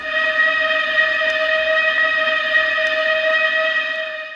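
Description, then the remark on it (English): The train to the Purple Hills pulling up at Dunleavin Station with a hissing squeal: a steady, high, tonal screech of brakes holds at an even loudness over a faint rumbling hiss, then eases off slightly at the end. No one speaks. “With a hissing squeal, the train to the Purple Hills pulled up at Dunleavin Station.”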